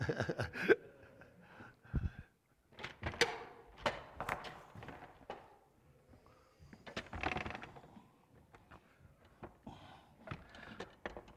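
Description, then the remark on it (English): Footsteps and clunking knocks as back doors are pushed shut, several distinct thuds and latch clicks spread over a few seconds, with no one speaking. “I think we'll shut these back doors.”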